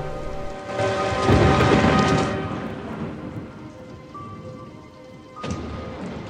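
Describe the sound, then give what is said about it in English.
Heavy rain pours steadily at night on the lawn outside a house while lightning flashes and a deep roll of thunder swells and rumbles through the first half, followed later by a second, sharper surge of storm noise. No voices are present. “He scampers through the wet grass towards Dustfinger, who picks him up and shelters him from the rain in his chest pocket.”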